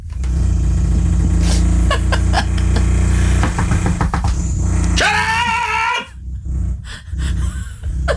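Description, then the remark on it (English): A jackhammer pounds loudly and steadily at the Q Radio building for several seconds with a deep rumbling clatter, then cuts off, leaving a brief high whine and quieter background noise. “That's not a drill. That's a jackhammer.”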